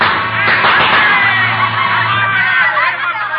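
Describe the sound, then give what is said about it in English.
A rowdy crowd in the St. Charles Saloon and Miners Resort cheers and whoops after one of the evening's gun battles has been settled, many voices overlapping in a loud, steady roar with scattered shouts and laughter rising throughout. “In the St. Charles Saloon and Miners Resort, one of the evening's gun battles has just been settled.”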